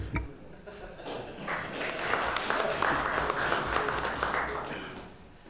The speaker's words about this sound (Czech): To se asi nestane, takže bychom možná mohli panu řediteli aspoň zatleskat.